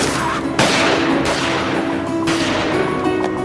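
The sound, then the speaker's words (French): A burst of gunfire from a man who has pulled out a gun during a fight: several sharp shots crack out in quick, irregular succession over a dense, noisy background, loud, with no voices. “a sorti un flingue.”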